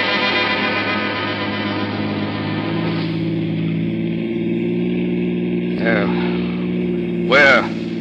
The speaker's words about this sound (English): We'll take Gus for a little ride. A ride? Yeah. But not in a police car this time. We'll use my jalopy.